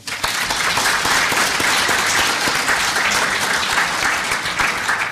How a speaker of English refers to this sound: A round of applause for Tony.